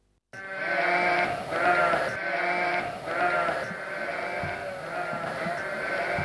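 Several sheep bleat continuously and overlapping, a loud chorus of wavering cries with no pause throughout.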